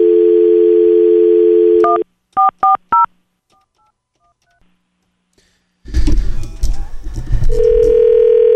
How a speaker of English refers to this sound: The burner phone is being called as we speak.